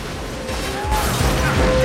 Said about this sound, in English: A truck bursts through the wall of the hangar and crashes into an office.